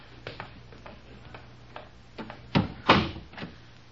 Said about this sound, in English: Now, you go first. I'll close the door after me.